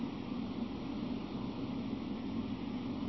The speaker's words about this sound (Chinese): 现在你在留意，请你再听听冷气机的声音。